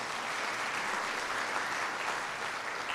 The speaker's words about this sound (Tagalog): At kung natututo po kayo, pwede bang pumalakpak tayo sa Panginoon?